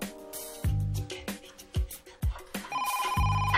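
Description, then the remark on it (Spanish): A telephone rings with a bright, electronic melodic tone, repeating in short bursts alongside some low thumping sounds, clear with no one speaking. “Mamá, ve a coger el teléfono.”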